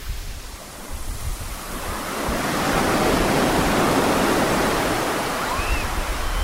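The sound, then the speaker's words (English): Waves breaking on the beach at Burton Bradstock in Dorset: a broad, hissing surge of surf that swells louder after a couple of seconds and holds steady, with no voices. “down on the beach at Burton Bradstock in Dorset.”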